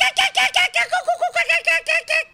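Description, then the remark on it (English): Noni Hazelhurst imitates a kookaburra's laughing call on Joy 94.9 community radio in Melbourne, Australia: a rapid, rhythmic string of about a dozen loud cackling hoots that fades slightly at the end, with no other talk. “Noni Hazelhurst, top bird and a kookaburra.”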